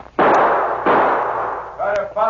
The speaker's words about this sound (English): Pete fired two shots over the driver's head.